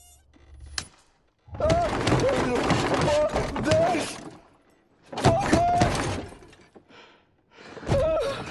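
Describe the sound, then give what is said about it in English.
A man's hands pound a car dashboard in loud bursts of repeated thuds and rattles, mixed with strained vocal noises, broken by short pauses between flurries. “He slaps at a mosquito that flies past his ear, then starts hitting the dash in front of him.”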